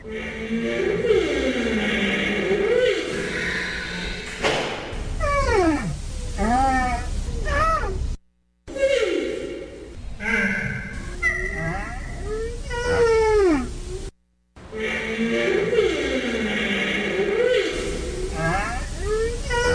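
Sumatran rhino calls: a steady run of wavering, whistle-like squeals that swoop up and down in pitch, mixed with lower moaning tones, in three stretches broken by two short silences.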